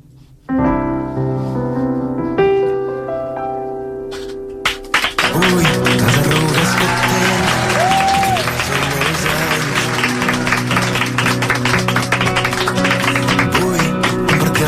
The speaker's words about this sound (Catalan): És l'aplaudiment més llarg que hi ha hagut aquí des que ha vingut algú a actuar, eh?